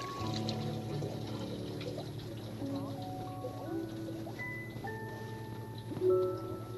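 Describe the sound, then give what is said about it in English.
Water runs steadily from a spigot into a house sink, a continuous splashing rush with shifting, ringing tones as it fills, swelling briefly louder near the end. “No, it has to have pipes to come into your house, like this spigot, and it comes through the pipes and around into the spigot and then into the sink.”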